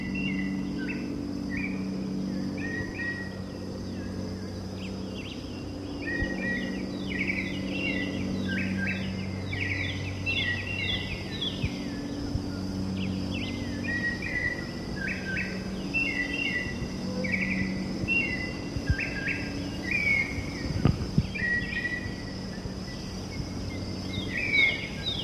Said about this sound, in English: Okay, confirmed. This is the white chin thrush that's been calling. That's a very mockingbird quality.